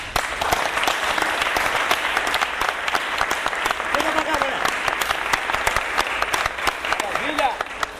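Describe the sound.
A crowd claps steadily for the full stretch, a dense, continuous patter of many hands at an even loudness, with faint voices calling out beneath it.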